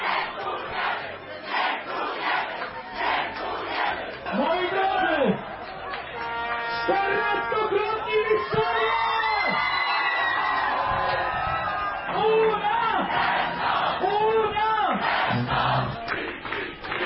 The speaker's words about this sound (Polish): Jeszcze raz przepraszam za fatalną jakość tego nagrania, no niekiedy tak bywa, złośliwość oczy martwych, dodatkowo jeszcze wczoraj deszcz, każdy miał tam jakieś swoje kłopoty. A taka atmosfera panowała wczoraj po meczu pod leszczyńskim stadionem.